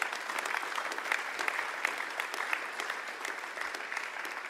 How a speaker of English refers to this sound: Let's give them a clap because they know who they are.